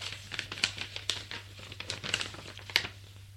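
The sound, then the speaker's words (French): Soft crinkling and crackling of a newspaper page being torn gently at night by someone trying not to make much noise, a run of small dry rustles with a few sharper snaps, fairly quiet over a faint steady hum. “délicatement, sans faire trop de bruit, et délicatement déchire la feuille.”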